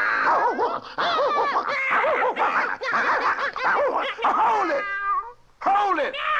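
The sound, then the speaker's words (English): A noisy cat-and-dog fight sound effect: yowling, wavering meows and caterwauls tangle with yelps and barks in rapid bursts, loud and continuous, then a brief pause before the squalling resumes. “Somebody's trying to mess up my Pink Pussycat Wine. Look, friend, you don't have to fight like cats and dogs over Pink Pussycat Wine.”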